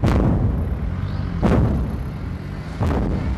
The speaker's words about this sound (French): Bakhmout, le fracas des départs d'artillerie. Mais aussi le sifflement et l'explosion des arrivées.